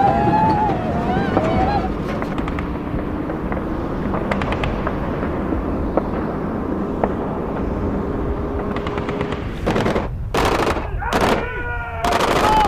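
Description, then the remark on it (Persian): Loud gunshots crack out in a rapid cluster of four or five blasts near the end, after scattered sharper snaps, over a constant rumbling outdoor background with faint voices, as a man gets out of a car and fires. “ابو خالد از ماشین پیاده میشه، شلیک میکنه.”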